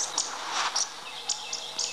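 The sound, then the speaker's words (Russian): Two woodcocks calling as they fly past at sunset over forest clearings: a series of sharp, high, squeaky chirps repeating every fraction of a second over a faint hiss, very close, with no talking. “Это совсем рядом пронеслись два вальчнепа.”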